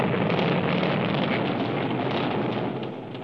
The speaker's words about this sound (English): It was mid-June when this static firing took place. The sound of a giant new type of rocket motor which burns rubber-like solid fuel rather than the more common liquid propellants.